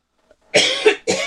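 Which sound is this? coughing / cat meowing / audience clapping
coughing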